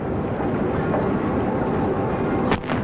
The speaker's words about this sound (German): Die Salutschüsse hallen über die Stadt. Sie peitschen in das Geläut der Glocken.